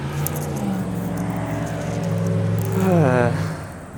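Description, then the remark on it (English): Car traffic passing through a residential neighborhood: an engine hums steadily, its pitch rising and wavering as it revs or passes, then fading slightly at the end. No one speaks. “The amount of noisy traffic passing through our neighborhood here is unfortunately just keeps increasing.”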